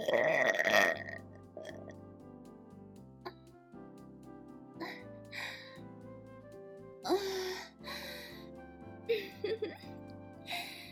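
A loud, drawn-out burp opens, followed by several more throaty belches spaced by short pauses, all prominent with no talking.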